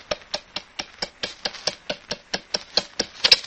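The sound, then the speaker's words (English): An electric toaster ticks steadily, a run of about sixteen sharp, dry clicks spaced evenly at roughly four or five per second, with no voices. “The electric toaster always ticked.”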